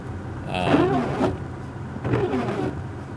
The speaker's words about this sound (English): Need to start my windshield wipers again here, so big noise.